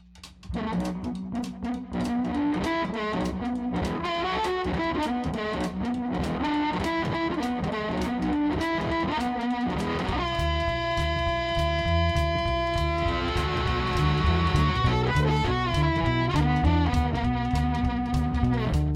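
A live blues-rock song plays loudly with a steady stomping beat and gritty distorted guitar; midway, sustained bright high tones swell over the groove. No singing or talking is heard.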